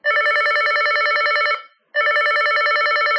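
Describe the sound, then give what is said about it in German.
A slide mobile phone rings loudly with an incoming call from another telephone: two long bursts of a buzzy, warbling electronic trill separated by a brief pause, with no talking. “Handy 1 ruft Sie an.”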